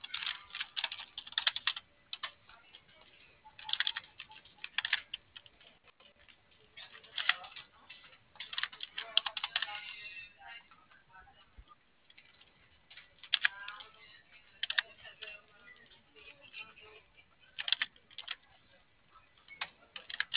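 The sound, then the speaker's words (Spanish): Keys clatter on a computer keyboard in quick, irregular bursts of clicks with short pauses between, fairly crisp, with no voices. “No, todavía no prende el teclado.”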